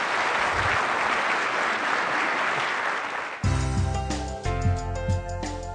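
An audience breaks into a dense, steady round of applause for about three seconds, then the clapping cuts off as loud music with sustained tones and a low beat begins.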